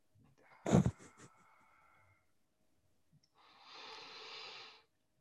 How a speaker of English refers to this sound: Sure. I mean, oh geez, I actually yawned there. That's good.